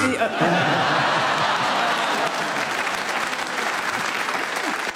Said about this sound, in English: Yes, there was a definite there, but they enjoyed it. I think they were applauding your arm, actually.